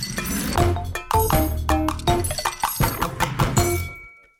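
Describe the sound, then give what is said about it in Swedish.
Unpeeled garlic cloves being crushed under a knife blade that is pounded with a fist: a quick run of loud, irregular knocks and cracks on a cutting board, with sharp clinking tones from the blade, about two per second, and no talking. “Jag krossade vitlöksklyftorna med knivbladet.”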